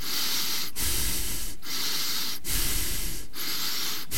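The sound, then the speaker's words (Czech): Heavy, forceful puffing breaths in a radio jingle repeat in a steady rhythm, each a long loud noisy gust broken by brief pauses, about five in a row, with no talking. “Funíte? Nefuňte sami. Radio Akropolis funí s vámi.”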